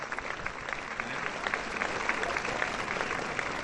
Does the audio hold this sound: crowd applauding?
yes